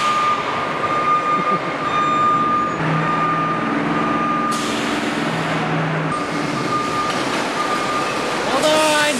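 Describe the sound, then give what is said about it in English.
A truck backs up, its reversing alarm sounding a steady high-pitched tone in long repeated stretches over a loud, rumbling diesel engine, with faint voices underneath. “How long does it take to back up a truck?”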